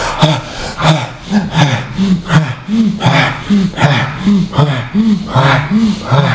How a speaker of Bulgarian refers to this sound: Още 30 пъти бастрика, влез за бастрика дишане.